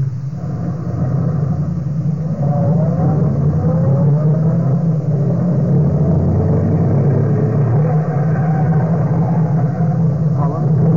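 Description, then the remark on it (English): A car engine drones steadily as the car drives across Germany from Brandenburg to Bielefeld by night on back roads, the Göring crest on its bonnet; a loud, continuous low rumble with faint rising whines from shifting revs. “We drove across Germany, from Brandenburg to Bielefeld.”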